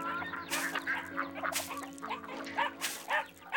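A young female puppy, being raised in a family barn, yelps and whimpers in short, high squeaky bursts, repeated unevenly over a low steady hum, with no one talking.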